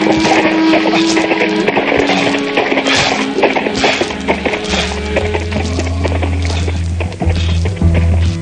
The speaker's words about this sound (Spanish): quien después de limpiar de sangre la espada y envainarla, vuelve a su caballo y cabalga, cabalga hacia adelante, superando siempre sus propias metas.